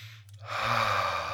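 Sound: deep inhale and exhale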